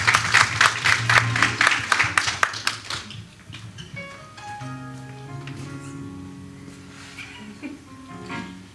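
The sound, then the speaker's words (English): A church audience claps together in a steady, loud rhythm for a few seconds as a man is called forward for a special presentation to the pastor, then the clapping fades out as sustained organ-like chords and soft background voices carry on. “Come on, put your hands together for him.”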